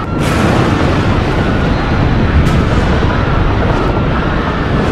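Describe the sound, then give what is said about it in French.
A heavy, continuous rumble of Mount Vesuvius erupting over Pompeii after an earthquake roars steadily throughout, deep and loud, with a few brief crackling bursts breaking through the dense low roar as it spews burning clouds and hurls rocks. “Les habitants, encore choqués par le séisme, entendent un grondement à glacer les eaux.”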